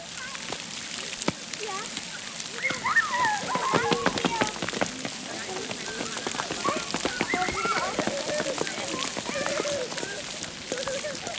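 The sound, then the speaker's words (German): Steady splashing and spattering water from a splash play fountain fills the scene, like spray falling on pavement, with children's voices chattering and calling over the continuous wash. “Was also am meisten, wenn Wasser so offen ist, das macht am meisten Spaß. Da kann man da durchrennen. Okay. Ist denn das Wasser gerade an? Ja.”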